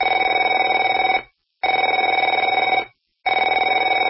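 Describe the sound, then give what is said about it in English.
A telephone bell rings in three long bursts of about a second each, separated by short silences, with a loud, buzzy, rattling tone and no voices. “Afraid to answer it?”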